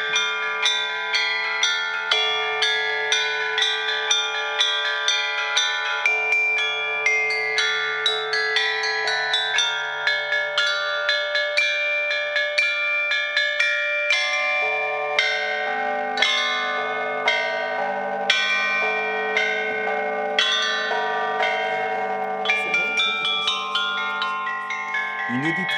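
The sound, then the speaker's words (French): Copper bells ring in a steady, rapid peal, each strike overlapping the lingering shimmer of the last, with a low sustained hum beneath throughout. “C'est beaucoup de la cloche. Oui. Et ils ensemble et ils sont fabriqués en cuivre.”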